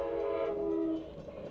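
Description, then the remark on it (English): A train passes a railroad crossing where a person is waiting, its horn sounding a steady, sustained tone for about a second before dropping away into a low background rumble. “In the background, you will hear the sound of the railroad crossing where I'm now waiting.”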